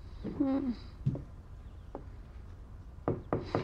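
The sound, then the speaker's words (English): Sharp knocks on a bedroom door, scattered singly at first and then three in quick succession, after a short moaning voice near the start. “Ruby knocks, enters, and hands her the green drink.”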